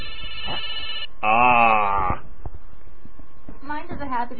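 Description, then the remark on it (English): A Nokia 3185i mobile phone rings with two loud, buzzy electronic tone bursts, each about a second long, followed by a short pause and then a voice starting to talk. “This is the ring of a Nokia 3185i.”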